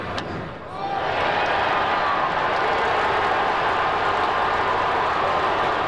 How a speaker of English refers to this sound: Modest applause and cheering replaced the usual yelling. Other times, such as when the Brewers hit the ball solidly, the crowd sounded huge.